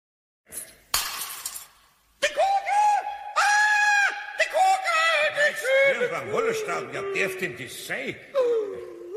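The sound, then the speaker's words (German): In a scene from a Pumuckl radio play, a glass ball drops and shatters in one sharp, bright crash, followed by several seconds of agitated, high-pitched voices exclaiming and talking over each other. “Du hast sie auch nicht richtig festgehalten. Ich hätte die Kugel viel fester gehalten.”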